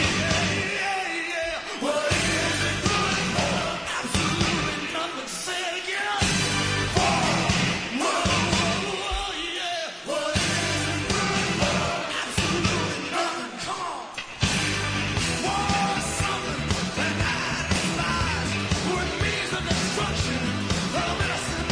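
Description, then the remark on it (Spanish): A loud, driving rock song with distorted electric guitars and pounding drums, played at full intensity throughout, with shouted vocals over the dense wall of sound. “Demostración de que se puede recordar a alguien que se fue a golpe de guitarras y batería como esta amiga”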